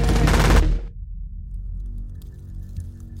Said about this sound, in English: And then the night erupts in gunfire.